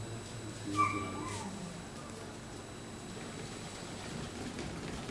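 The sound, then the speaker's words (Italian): An approaching tram rumbles along its rails, a low continuous rumble that makes the ground tremble, with a brief high metallic squeal near the start, holding fairly steady rather than building toward anything. “A un tratto la terra cominciò a tremare sotto le loro zampe. Era il segnale, il tram stava per arrivare.”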